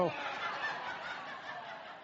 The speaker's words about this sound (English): If you can't tell online, we have boos throughout there. Or I'm interpreting that as boos. That's what I'm interpreting it as.